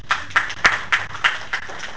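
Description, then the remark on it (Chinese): An audience at a technical exchange event claps as a vote for a contestant, in a steady, even rhythm, about seven distinct claps at a moderate level, with no talking over them and a faint low hum underneath. “这是这位的，鼓掌。”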